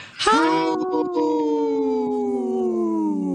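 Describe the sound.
A woman imitates a wolf howl on a radio show: one long, sustained voiced tone with strong harmonics that rises sharply at the start, then glides slowly downward in pitch, loud and alone.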